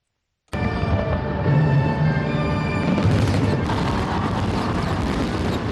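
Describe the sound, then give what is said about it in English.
A sudden, loud barrage of fireworks bursts over Hong Kong's Victoria Harbor on a Sunday for National Day celebrations, then keeps going as a dense, continuous roar of overlapping booms and crackling pops, with no gaps between explosions. “Fireworks lit up Hong Kong's Victoria Harbor on Sunday.”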